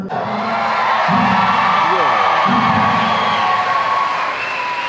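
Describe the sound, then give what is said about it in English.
A large crowd cheers and claps loudly and continuously, a dense wash of shouts and whoops with clapping mixed in, and a low voice briefly rising above the roar twice. “They're cheering, yeah. They're clapping, too.”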